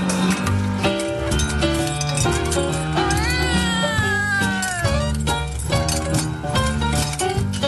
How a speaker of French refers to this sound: sauf qu'il y a aussi, tendez bien l'oreille, comme je vous le disais, un chat.